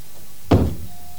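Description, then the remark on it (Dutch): A door opens with a single dull thunk and a brief rattling scrape that fades quickly, followed by a faint steady hum. “Oh, ik doe even open.”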